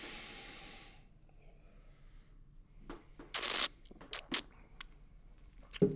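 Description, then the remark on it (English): Sniffing of wine, a sharp inhale, followed by several quick slurping sips of wine being tasted, with soft breaths and quiet pauses between them and no talking. “have a sniff and a taste and see what you think of the inaugural Chateau Kermode”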